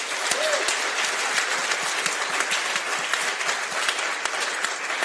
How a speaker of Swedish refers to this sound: Ge en varm applåd till Jonathan Unge.